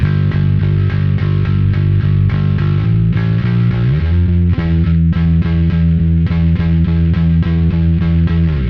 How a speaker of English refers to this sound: And then we have a sort of slightly more subdued distortion, the Dark Glass, the B3K, which also sounds fantastic, but that's more for like the sort of lighter distortions